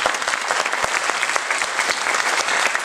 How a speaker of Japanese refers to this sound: 拍手を持ってお迎えします。